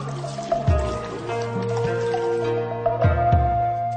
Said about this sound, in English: At the top is a purification fountain. Here one takes a ladle, fills it with fresh water, and then rinses both hands. One is also supposed to rinse the mouth with water poured from the ladle into the hand.